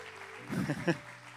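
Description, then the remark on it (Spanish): A steady wash of audience applause, moderately soft, with a few short voiced shouts or cheers rising briefly in the middle. “Aplaudile a nuestra mayor influencia e inspiración.”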